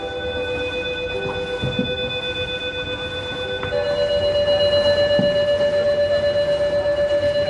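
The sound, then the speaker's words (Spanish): Venice high-water (acqua alta) flood warning sirens, which sounded several times in the past week, sound a steady electronic tone, then step to a new, higher pitch partway through and grow louder, holding over a low background rumble with no talking. “Estas sirenas que estás escuchando han sonado en varias ocasiones en la última semana en Venecia.”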